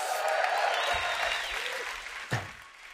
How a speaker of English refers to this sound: Let's give yourself a round of applause for that.